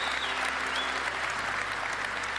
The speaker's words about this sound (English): This is one of the nicest setups to a conference I've ever seen. Let's clap it up for these guys. This is unbelievable.